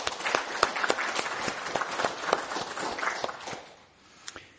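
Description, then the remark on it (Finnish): A church audience applauds a couple marking 30 years of faith, with dense, steady clapping that holds for several seconds, then thins out and fades to a few scattered claps at the end. “Annetaan aplodit.”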